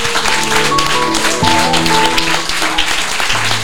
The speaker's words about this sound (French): mais est-ce que tu pourrais s'il te plaît me laisser demander à tout le monde d'applaudir Claire Keim?